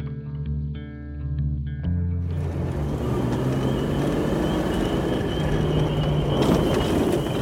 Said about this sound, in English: Outside of the Faulkner School a little bit later, the cars slowly roll past the school and park.